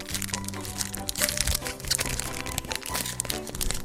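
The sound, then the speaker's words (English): Plastic wrap being peeled off a five-card pack of game cards: a steady stream of bright, crackly crinkling that lasts the whole few seconds, over a faint low humming tone. “Peeling back some plastic.”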